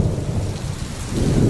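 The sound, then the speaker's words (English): A steady summer thunderstorm: heavy rain pours continuously while deep thunder rumbles low underneath, swelling slightly toward the end. Fairly loud, with no voices. “A summer storm.”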